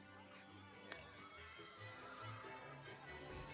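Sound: horses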